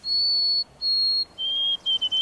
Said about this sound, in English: In the east, you're more likely to hear the sweet, wavering song of the white-throated sparrow.